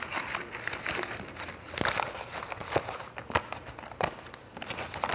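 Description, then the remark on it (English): Dry crinkling and rustling of paper being pulled out of a cup that had been held underwater, with scattered sharp crackles and soft scraping over a few seconds and no voices. The paper is dry. “If you take the paper out, is it wet?”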